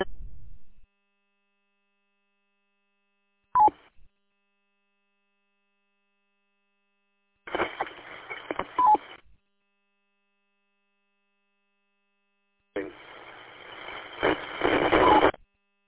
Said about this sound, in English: Well, that's one way to know you don't got enough money to buy a radio. It's got a Roger beep. FM.